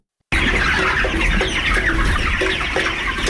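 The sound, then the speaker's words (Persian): A dense chorus of about 3000 chickens clucking and chattering continuously on a 40-metre poultry farm beside the river of the Ghorband valley, in Tatamdara village, Parwan province, with short repeated cluck tones rising above a constant, busy background of fowl noise. “در کنار ساحل دریای دره غوربند مکان بزرگ 40 متره حدود 3000 مرغ پرورش داده می شد که یکی از این فارم های مرغداری در روستای تتمدره ولایت پروان موقعیت داشت.”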